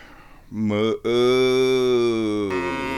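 cow mooing

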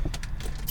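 getting into a car

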